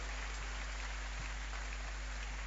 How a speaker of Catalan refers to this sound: Sí. Un fort aplaudiment. Moltes gràcies.